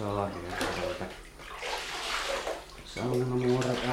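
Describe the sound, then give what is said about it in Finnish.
Water splashing and sloshing in a basin of warm water as hands are washed in a sauna, a steady wet rush between stretches of talking. “Pistä siihen sopivan lämmin sekoitus. Minäkin pesen vähän käsiä.”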